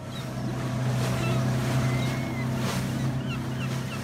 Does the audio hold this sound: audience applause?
no